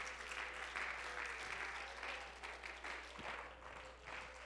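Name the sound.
audience clapping hands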